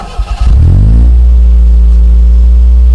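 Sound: truck engine revving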